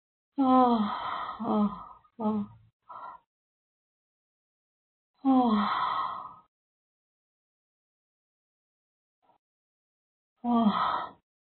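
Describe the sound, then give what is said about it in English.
Three long, voiced yawns with a few short breathy sounds after the first, each separated by a quiet pause. They are fairly loud, with no talking. “You're making me yawn so much, darn it.”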